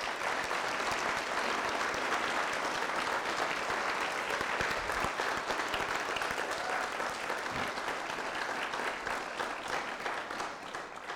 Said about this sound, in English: Downstairs, I think we should give the two of them a round of applause.